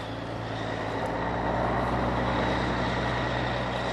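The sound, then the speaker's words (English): A blue semi-truck's engine rumbles steadily with a low, droning hum, growing slightly louder as it pulls into a meadow just off a winding road, its open-air trailer packed with small trees and branches; no voices present. “A few miles away, a blue semi-truck pulls into a meadow just off a winding road.”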